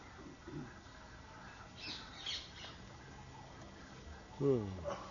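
A large bird gives one loud, harsh squawk near the end, preceded by a few fainter, scratchy calls, all over a low background murmur.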